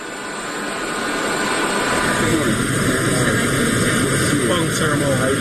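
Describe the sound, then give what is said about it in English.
A steady, loud jet engine drone fills the cabin of a Department of Defense government plane flying to Naval Station Guantanamo Bay, a broad continuous roar with a high whine on top, swelling slightly at the start and then holding constant. “We're here aboard the Department of Defense government plane on the way to Naval Station Guantanamo Bay, where everybody knows there are flights of illegal immigrants arriving on a regular basis.”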